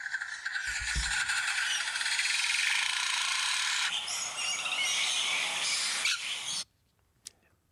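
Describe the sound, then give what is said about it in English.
A lyrebird mimics construction noise: a dense, loud mechanical rattling and grinding, like a ratchet or power tool, running steadily for several seconds with a thump early on, then cutting off to near silence. “It was actually a lyrebird mimicking construction sounds.”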